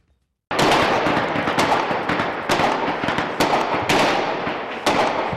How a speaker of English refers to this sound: A barrage of bombings rains down from above. Residents in Ukraine's capital, Kyiv, scramble for cover as a series of drone and missile attacks strike residential areas and energy infrastructure.